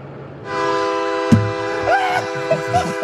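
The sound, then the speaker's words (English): A loud, sustained train horn blares with steady stacked harmonic tones, joined by a brief sharp thump and wavering higher tones, with faint low voices underneath. The train horns are played from a neighbor's house on Peach Street in Van Nuys, several times a day, along with his home alarm. “Because of one neighbor who's been blasting a daily symphony of both his home alarm and train horns.”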